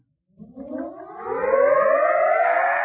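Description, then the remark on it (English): A howling wind rises steadily in pitch and grows louder, a long tonal moan with a siren-like quality that sustains to the end as the wind blows a door shut. No talking is heard. “What's that, Daddy? Just the wind. Oh. Blew the door shut.”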